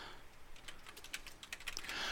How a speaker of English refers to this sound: Oh, yeah, and you can hear me typing. Sorry about that.